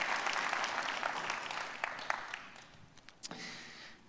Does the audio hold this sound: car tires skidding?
no